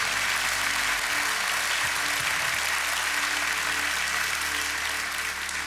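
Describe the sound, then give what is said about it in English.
A crowd bursts into steady, sustained applause, many hands clapping at once in a dense, loud wash of sound that holds evenly throughout without any voices standing out. “If you don't clap for that, you're not gonna clap for anything.”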